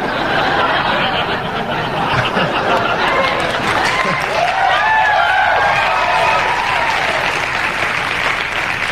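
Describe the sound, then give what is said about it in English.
A crowd reacts to a joke about O.J. Simpson with a mix of steady applause, scattered laughter and murmuring voices. The clapping is continuous and fairly loud throughout, with some individual voices rising over the noise midway. “The crowd is torn.”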